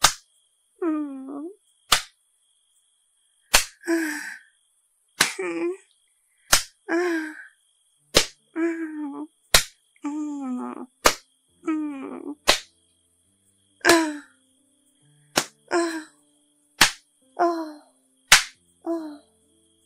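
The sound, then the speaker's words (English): About a dozen hard, sharp slaps land at a steady pace, loud, each followed by a short breathy vocal cry, with no actual talking. “Oh, sir, your slaps are so hard, making everything jiggle.”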